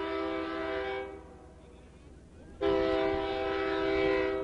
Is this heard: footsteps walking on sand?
no